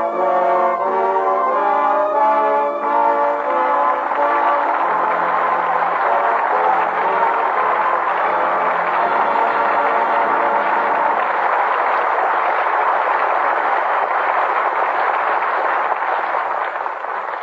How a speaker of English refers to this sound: With that well-deserved applause, our thanks to Jimmy Stewart and Joan Blondell, who come to the footlights for their curtain call.